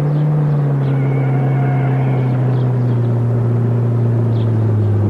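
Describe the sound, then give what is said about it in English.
A car engine drones loudly and steadily throughout as the car starts driving faster, a deep continuous rumble with a sustained hum that sinks slightly in pitch, with no voices. “Then Herb started driving faster.”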